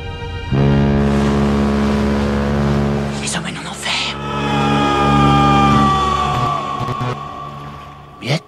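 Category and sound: vehicle, boat engine running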